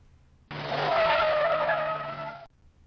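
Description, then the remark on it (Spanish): Car tires screech loudly in one sustained skid lasting about two seconds as a car stops abruptly in front of a school, a harsh wavering squeal that starts abruptly and cuts off sharply, with faint road rumble underneath. “Rechinaron las llantas mientras el auto paró bruscamente frente a la escuela.”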